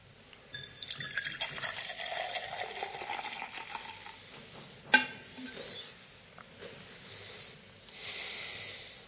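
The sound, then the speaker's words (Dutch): Wine is poured into a cup in a steady gurgling stream, with a brief clink partway through, then quieter trickling and a soft swell near the end. No one speaks. “Hij heeft aan het kruis, en dat wordt zichtbaar gemaakt bij het inschenken van de beker.”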